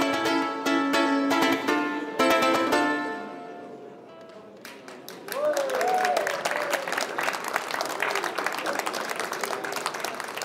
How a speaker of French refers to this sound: C'est le solo que vous applaudissez, là ? Vous êtes pas très exigeant, hein.